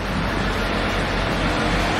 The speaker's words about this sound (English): Incredible fast car.